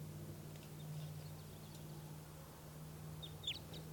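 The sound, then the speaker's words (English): A few short, high call notes of an orange male crossbill with a right-crossing bill, a faint one early and a clearer pair of sharp chips near the end, over a steady low hum with no voices. “Oh, there is a crossbill here.”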